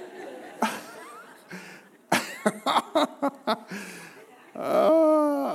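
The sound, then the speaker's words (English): A young audience member in the third row gives a string of short, throaty grunting bursts, several in quick succession, ending in a longer voiced growl, loud with no talking. “He might be grunting for another reason, though.”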